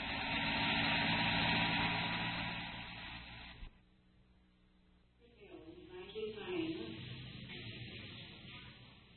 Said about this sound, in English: Hold that helicopter. I've got a man here that's got to make it.